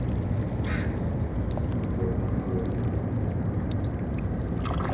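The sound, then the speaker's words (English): Tiny clicks and crackles from barnacles among seaweed putting out their fingers to feed as water moves through crevices, with trickling and sucking sounds over a steady, loud low rumble of the surrounding city that continues throughout. “It trickles and clicks and sucks and...”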